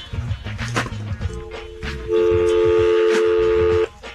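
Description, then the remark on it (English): A phone dialling: a quick series of short electronic tones, then one loud, steady tone held for under two seconds before it cuts off. “Should we ring them? Yeah. Ring them.”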